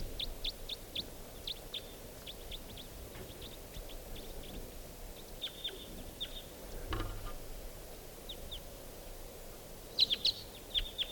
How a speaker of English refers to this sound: There's that type 4 bird flew off. And so there's a lone type 2 bird. This is it. Wild bird.